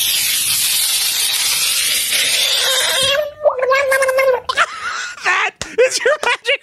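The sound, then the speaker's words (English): A frog screaming after being put in water: about three seconds of steady hissing, splashy noise, then a run of loud, high, wavering shrieks, some long and some short, almost cat-like. “Screaming frog in water.”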